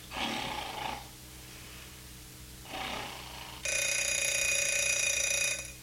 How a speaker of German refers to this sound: Was ist das? Ach, der Wecker klingelt. Wie spät ist es? 7 Uhr.